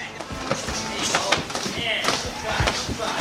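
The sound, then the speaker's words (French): Punches thud against heavy bags in a busy boxing gym in Curicó, in Chile's central valley south of Santiago, an irregular series of sharp impacts over a constant room hum, with indistinct voices murmuring in the background. “On est ici à Curicó, dans la vallée centrale du Chili, au sud de Santiago, dans la salle d'entraînement du Boxing and Weed”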